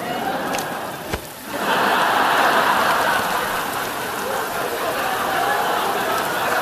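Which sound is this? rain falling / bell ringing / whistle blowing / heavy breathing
rain falling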